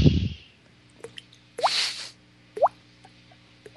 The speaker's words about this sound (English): What is that noise? Just some water dropping. It's okay.